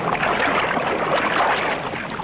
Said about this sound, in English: Above, the boats are brought alongside.